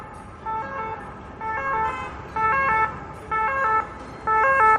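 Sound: ambulance siren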